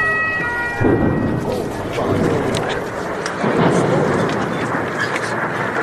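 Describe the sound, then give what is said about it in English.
Two deep, rolling explosion booms from an Israeli airstrike in Lebanon rumble out about three seconds apart, with a thin siren tone briefly audible at the start over a steady low roar. “We've had explosions and smoke filling the horizon.”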